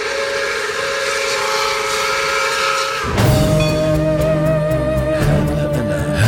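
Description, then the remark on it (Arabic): A steam train sounds a long, loud whistle over hissing steam, then shifts into a deeper rumbling chug with clanking, at the railway station Leo Tolstoy travelled to when fleeing his home. No one speaks. “إننا في 20 نوفمبر عام 1920 في محطة القطار التي قصدها ليو تولستوي هربا من بيته ومن حياة الترف.”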